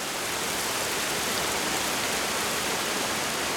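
A steady, dense rush of falling water roars without pause, a broad, even hiss filling the whole clip with no voices, from the Struccia mountain waterfall in the Castagniccia forest, Corsica.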